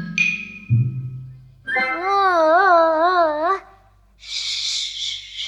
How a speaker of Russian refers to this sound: Не плачь, не плачь, маленькая.